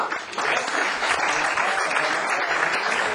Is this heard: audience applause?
yes